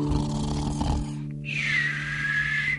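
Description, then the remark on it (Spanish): Voices imitate snoring as part of a sung 'now let's snore' action chant: a low, rumbling harmonic snore, a brief pause, then a long whistling exhale rising and holding, fairly loud with no talking. “Ahora vamos a roncar.”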